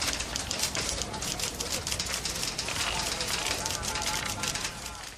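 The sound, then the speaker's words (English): Typewriters clacking in a dense, continuous rattle of sharp overlapping keystrokes, with no pauses, like several machines being typed on at once, steady in loudness throughout. “The archaic sounds of typewriters.”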